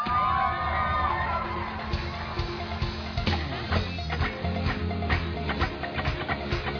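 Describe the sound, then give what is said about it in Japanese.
A large crowd shouts and cheers loudly and continuously to God, with scattered whoops and yells rising above a dense, roaring wall of voices that stays steady throughout. “皆さんもっともっと叫べます。神様に叫べますか？”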